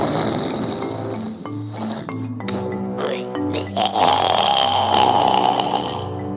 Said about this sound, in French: Mais quelques instants plus tard, un ronflement sorti de nulle part avait fait sursauter Rafi.